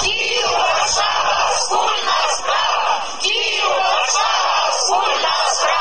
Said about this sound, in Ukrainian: Такі вигуки лунали в неділю на головних площах і вулицях Варшави. На знак солідарності з київським Євромайданом, центром польської столиці, пройшли понад 1000 українців і поляків.